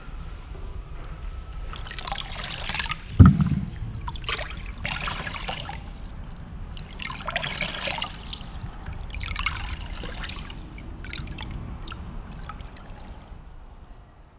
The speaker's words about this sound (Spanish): De pronto escucharon un río. Había que cruzarlo.